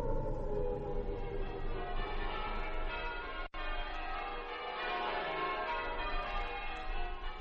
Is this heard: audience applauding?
no